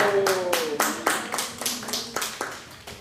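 Hands clap in a steady, rhythmic run of about a dozen sharp, bright claps over three seconds, with a faint voice briefly audible underneath at the start.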